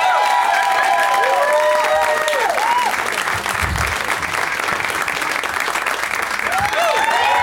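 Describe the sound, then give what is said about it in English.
A crowd claps loudly and steadily throughout as guests Dana Gould, Clark Wolf, Adam Ray and Bobcat Goldthwait are introduced, a dense wash of applause punctuated by rising whistles and scattered cheers, with no clear speech over it. “Please give it up for Dana Gould, Clark Wolf, Adam Ray, and Bobcat Goldthwait.”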